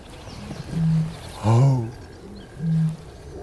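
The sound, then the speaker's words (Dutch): A reed bird calls three times from low in the reeds, very close, within about 50 metres. Each call is a deep, low booming note about a third of a second long. The middle call is the loudest and fullest. No one speaks. “Ze roepen een paar keer en blijven ze laag in het riet.”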